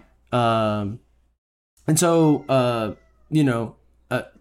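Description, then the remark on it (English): A cat shut inside a room meows five times in quick succession, loud: one long drawn-out cry, then shorter, insistent calls with brief pauses between them, as it wants to be let out of the room. “Stop meowing at me.”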